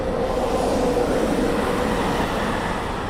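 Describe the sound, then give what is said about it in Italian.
A train rumbles past at a steady, fairly loud level, its broad rolling noise continuous throughout without rising or fading, and no voices. “Confortablement assis sur ma nacelle pour voir passer le train, par exemple.”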